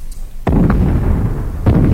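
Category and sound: sound effect, cannon fire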